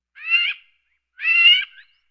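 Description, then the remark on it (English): Two harsh, raspy magpie calls, each lasting about half a second with a short pause between, clear with no other noise around them. “Is it magpie? Yes, correct.”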